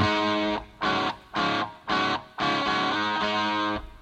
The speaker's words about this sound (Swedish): Det här låter som... Nej. Det är inte så dåligt. Den hi-hatten med delay reverb.